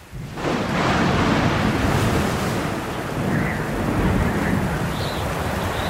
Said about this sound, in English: All he could see was water, and all he could hear was wind and rain and the faint sound of the old faithful boat imploring him to hold on. Hold on, Cap'n. Night drew in, and still the storm raged.